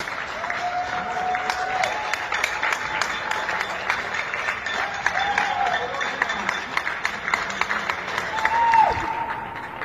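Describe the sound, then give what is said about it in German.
Steady audience applause, recorded about a year earlier, fills the whole stretch, a dense wash of clapping at moderate loudness, with a few faint tonal whistles or squeaks rising over it. “Ja, dieser Applaus ist weder für die Caro noch für mich.”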